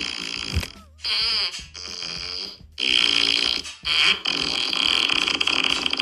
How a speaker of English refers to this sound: okay, there's something called a fart pedal. Okay. You can't play an actual tune, but it does. It is played similar to a guitar. It's a fart machine. Yeah, that's what it is. It's a fart machine.